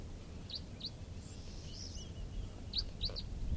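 Short, high chirping calls from a flock of four crossbills that have just landed, two red-orange males and two brown birds, come in loose clusters, some doubled, over a steady low rumbling background at 8:10; no one speaks.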